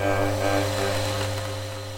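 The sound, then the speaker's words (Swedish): A homemade-looking radio with a large lever and a microphone starts to hiss and whir after its lever is pulled: a steady electrical hum with layered low tones beneath a broad, airy static, holding fairly even for two seconds before easing off slightly, with no voices. “Det börjar susa och surra från radion.”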